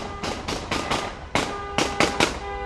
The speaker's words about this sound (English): The relatives honk and fire guns into the air in celebration as they approach the house where his tearful mother and sisters are waiting.